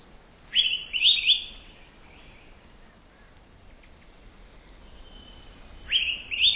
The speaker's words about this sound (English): The critically endangered Araripe manakin, recorded by Garrett Vinn of the Cornell Lab of Ornithology.